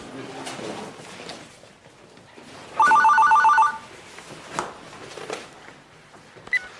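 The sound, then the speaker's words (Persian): A telephone rings once in a short, bright trilling burst of under a second, loud, with faint background voices and room noise before and after. “یه لحظه جواب تلفن رو بزن.”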